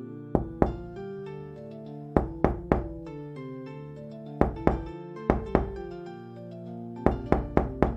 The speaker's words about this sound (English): Then, three slow knocks at my front door. Boom, boom, boom.